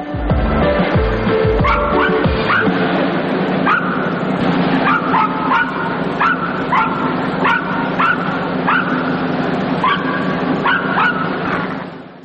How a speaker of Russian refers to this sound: Собачки в манеже, это можно понять, сразу входя в цирк, вы слышите веселый лай.